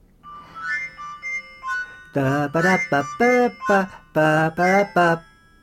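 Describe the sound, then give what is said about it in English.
A soft electronic phone alarm melody plays a few short bright notes, then a much louder voice sings a run of rhythmic syllables, seemingly imitating the tune. “For example, I have to give you to speak about the alarm, no?”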